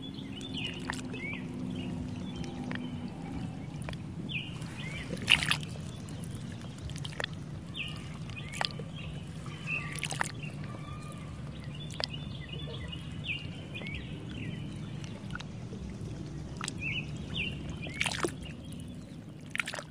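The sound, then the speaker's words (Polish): Gentle water sloshing and lapping against a small boat on a lake, with scattered splashes and occasional bird chirps over a steady low outdoor rumble; no one speaks. “Czy plusk wody nad jeziorem.”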